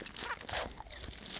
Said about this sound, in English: She ate some food that she had packed